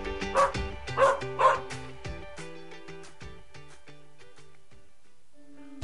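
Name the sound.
dog barking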